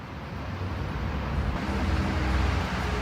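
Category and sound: vehicle, street traffic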